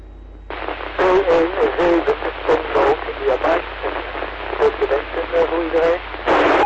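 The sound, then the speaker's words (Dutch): An amateur radio voice breaks up through steady hissing static, the transmission coming in after a brief quiet moment and staying faint and garbled under the noise. “Die komt in de ruis binnen, die graag naar je weer.”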